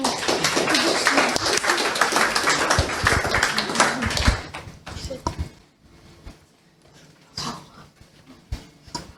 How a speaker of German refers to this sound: Gut, dann übergebe ich an euch. Großen Applaus bitte.